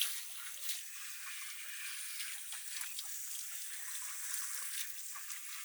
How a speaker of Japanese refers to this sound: シャワー気持ちいいっしょ。